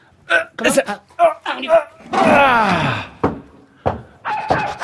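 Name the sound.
dog barking and growling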